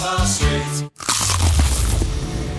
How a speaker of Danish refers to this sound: Det her var et forsøg på at tage en lydløs bid af den nye knasende kyllingeburger McCrispy. Desværre fejlede det.